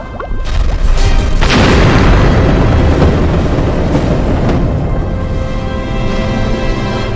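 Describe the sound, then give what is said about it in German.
A massive meteorite impact boom hits loud, then rolls into a long, roaring rumble that stays heavy for several seconds with no voices, as a giant meteorite strikes the surface of an ocean-covered moon and hurls a huge wave of ocean water into orbit. “Ein gigantischer Meteorit trifft die Mondoberfläche und schleudert eine riesige Welle aus Ozeanwasser direkt in den Orbit, wo das Wasser in Sekundenbruchteilen gefriert, mitsamt seiner lebendigen Fracht.”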